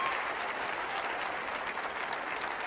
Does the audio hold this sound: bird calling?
no